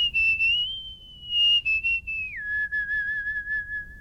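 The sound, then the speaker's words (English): A clear human whistle by a musical whistler holds long sustained pitches, sliding smoothly up, then stepping down to a lower held note, with a light melodic wobble and faint background rumble. “I am a whistler, a musical whistler.”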